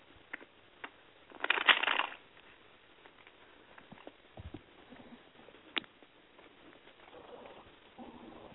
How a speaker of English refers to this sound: Or okay, let me shuffle the cards and ask.